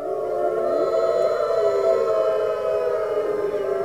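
Several long, wavering howls overlap in a steady chorus, their pitches sliding slowly up and down. The sound is loud and continuous, with no talking.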